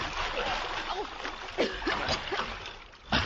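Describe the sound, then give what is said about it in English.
Water splashes and sloshes as people wade into a ditch about 20 feet wide to cross it, with two louder splashes standing out over a steady churning wash, and faint strained vocal sounds mixed in. “Now, come on, let's get across that ditch. In the water? No. I will not do it. I will not go into the water.”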